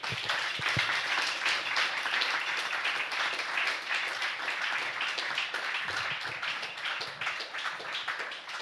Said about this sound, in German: Bitte einmal laut klatschen.